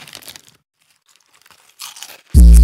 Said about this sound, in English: Hold on, I gotta eat some chips.